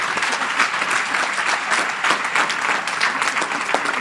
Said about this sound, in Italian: Facciamo un applauso a lei.